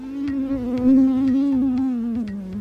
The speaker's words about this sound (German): Vor allem nachts im Schlafzimmer. Mückengeräusche sind aber auch essentiell für die Fortpflanzung der Tiere. Und das erlaubt neue Ansätze, wenn es darum geht, die Verbreitung der Tigermücke einzudämmen.